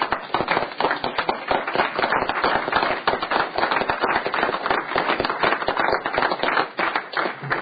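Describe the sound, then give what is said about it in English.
People at a Senate session applaud steadily to welcome the chapter leadership from Gillette, Rollins, Cheyenne and Sheridan, a dense, crackling wash of many hands clapping that holds at an even, fairly loud level for about eight seconds with no voices. “Please help me give them a warm welcome.”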